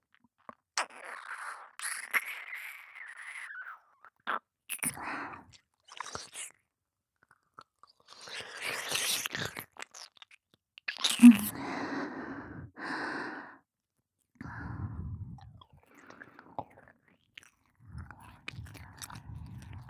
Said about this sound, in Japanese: なめなめしながら吐息もたっぷり、